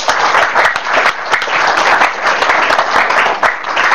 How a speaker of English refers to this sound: Well, let's give Jesus a big clap of praise.